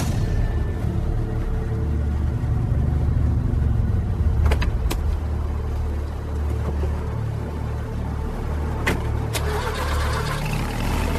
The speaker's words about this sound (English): This is your car? It's an undercover vehicle.